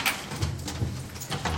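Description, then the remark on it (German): The heavy door of an old civil defence bunker, a former school bunker, is unlocked and pulled open, with a few metallic clunks and a low rumbling scrape, fairly loud, with no one talking. “schließt den alten Zivilschutzbunker auf und lässt seinen Hund von der Leine.”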